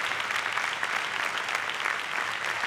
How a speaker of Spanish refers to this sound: Vamos a aplaudirle a todas.